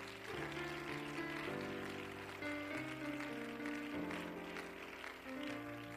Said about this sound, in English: And with the church, clap your hands to the Lord.